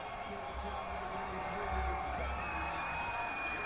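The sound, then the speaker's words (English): Steady, dense crowd roar at a Lansing Lugnuts baseball game against the Whitecaps in the bottom of the ninth, as t-shirts are thrown out to the crowd. A wash of many voices with scattered whoops and cheers rises and falls over about four seconds, fairly loud throughout. “The folks out on the playing surface are waiting for the crowd to settle as they're throwing out t-shirts one last time.”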